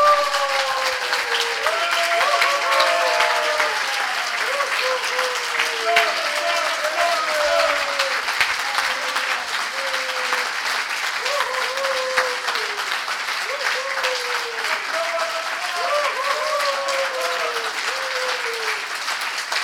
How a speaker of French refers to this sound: Et j'aimerais qu'on termine avec un applaudissement nourri pour Jésus, un applaudissement nourri.